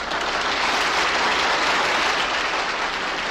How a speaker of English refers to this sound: Leaving the Assembly Hall to the applause of the United Nations Secretariat, His Holiness is escorted down the stairs to the delegates' entrance where the cars are waiting.